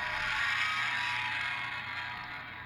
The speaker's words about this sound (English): Is that really the best gong sound effect they could find? It's on the Android market as well.